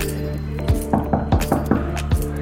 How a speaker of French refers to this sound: je pense que c'est cette porte-là. Ouais, c'est ça. On va frapper.